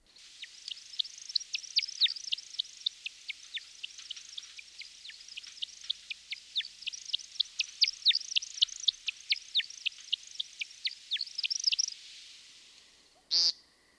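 An American woodcock gives a long, rapid series of high, liquid chirps and twitters for about twelve seconds, then stops; a brief buzzy burst follows shortly after. No one speaks.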